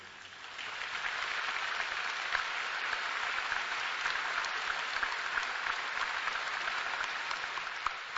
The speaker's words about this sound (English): Yes, I know that clapping was for all of our young ones in our audience that take that stand, our modern Hananias, Mishaels, and Azariahs.